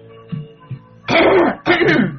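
A man clears his throat a few times: two small gruff grunts, then two loud, rough, raspy bursts of throat clearing, with no words spoken.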